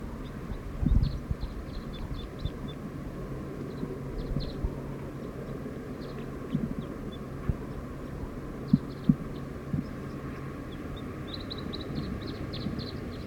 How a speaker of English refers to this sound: Song of a wild bird. Very soft.